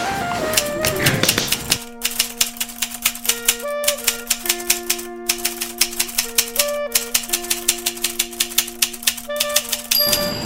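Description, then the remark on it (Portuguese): A short channel intro jingle built from rapid, rhythmic typewriter-like clacking over a steady low hum and a few held higher notes, broken by brief pauses, with no voices. “Enquanto isso, ou seja, enquanto roda a vinheta, se você não é inscrito no meu canal, se inscreva, ative o sininho, dê um joinha, comente, compartilhe.”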